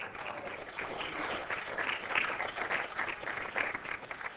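An audience breaks into steady applause for a child called up to help the speaker: a dense, crackling wash of many hands clapping that holds at an even, moderate loudness for about four seconds, with no one speaking over it.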